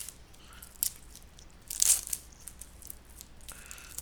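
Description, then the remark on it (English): Crisp crinkling and tearing of snack packaging being opened, with a sharp burst near the middle, followed by soft crunchy chewing of the snack. No one speaks. “Packaging is opening, and I am starting to chew.”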